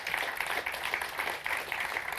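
An audience applauds steadily, a dense wash of many hands clapping at an even level throughout, with no voices standing out.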